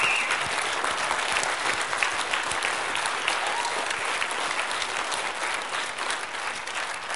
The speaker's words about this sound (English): If you are a director in the room, please stand up. We want to applaud you as well. Give them a hand.